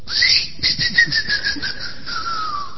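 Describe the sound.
A shrill, pulsing whistle that warbles and slowly slides downward in pitch for about three seconds, mimicking the wheezy squeak of a squeaky sausage toy swallowed by a dog. No talking over it.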